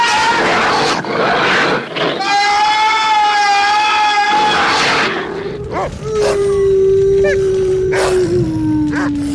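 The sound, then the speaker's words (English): A loud, eerie howl from the Devil Dog, Lucky, shown in its true form at Cliff Barnes' house in a 1970s TV movie, holds a steady wavering pitch for a few seconds, then a deeper, drawn-out howl follows amid sharp cracks and rumbling, menacing movie-style effects. “He shows up at Cliff Barnes' house, where, for the first time in this movie, we get to see the Devil Dog in its true form.”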